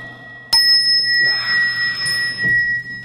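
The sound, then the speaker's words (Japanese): A ding-dong doorbell chime rings out sharply, its bright tone sustaining and slowly fading over a couple of seconds, loud with no voices. “卓 球と書きまして、来客と解く。 その心は？ ピンポーン。”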